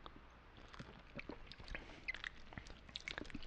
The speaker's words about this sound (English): And now the sound of people drinking.